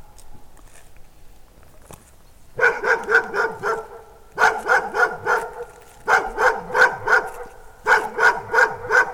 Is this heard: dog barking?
yes